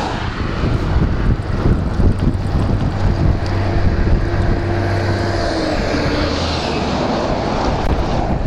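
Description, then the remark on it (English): A very long heavy road train roars past on a main north-south route with a deep, droning engine hum and a steady rush of wind noise, the low rumble easing off toward the end. No one speaks. “Quite a few road trains on this main north-south route. That was another one.”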